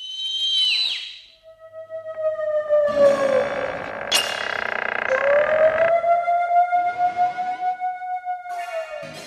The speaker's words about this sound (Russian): А ну-ка, заткните уши. Зачем? А потому что от драконьего свиста запросто можно оглохнуть. Сейчас буду свистеть. Ой. Пыхалка вылетел на балкон, надулся и как свистнет.